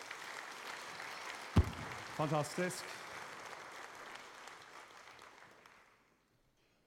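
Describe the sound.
An audience claps steadily for several seconds, a dense crackling wash that fades out, with a sharp thump early on and one voice calling out briefly over the clapping.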